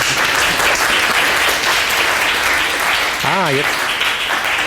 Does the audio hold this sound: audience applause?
yes